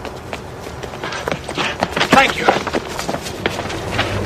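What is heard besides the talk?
footsteps sound effect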